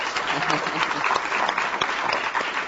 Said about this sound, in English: And wine writers Jancis Robinson, round of applause, please.